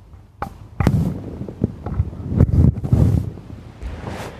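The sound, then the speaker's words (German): Rough rustling and scraping with several soft thumps as a fuzzy windscreen is pulled onto a microphone, the handling noise fairly loud and irregular, with no talking. “So, jetzt hat mein Mikro die tote Katze auf.”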